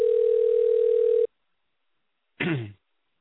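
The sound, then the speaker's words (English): A loud, steady telephone dial tone as someone tries to dial a call, humming at one low pitch for just over a second, then cutting off abruptly; after a short silence comes a brief, harsher burst of sound. “I'm going to try to dial this right now.”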